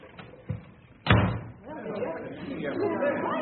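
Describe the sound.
A heavy body slam as someone crashes into another person and knocks them down, one loud thud after a lighter bump, followed by a low murmur of voices.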